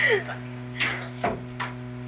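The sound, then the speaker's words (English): A refrigerator hums steadily in the background, a constant low electrical drone, while a few brief clicks and rustling knocks break in over it. “That's the icebox.”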